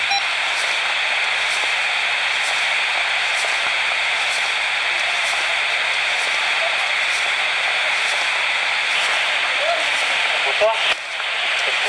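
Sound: radio static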